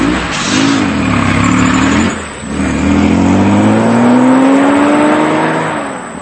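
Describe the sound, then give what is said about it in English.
A truck engine roars and pulls away, its deep droning note climbing in pitch as it gears up, loud and steady with a brief dip, then easing slightly at the end. No one speaks. “Why didn't I just stay in the truck with Valentina?”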